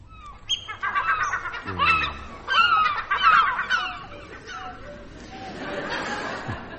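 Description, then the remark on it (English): Several seagulls, the seagull accompaniment to Roy Plumley's desert island, call out together in a busy, overlapping chorus of squawks and cries, loud at first, then thinning to a fainter murmur of calls. “John, the odd thing about Roy Plumley's desert island with its seagull accompaniment is that you're not likely to find gulls around at all on a tropical island.”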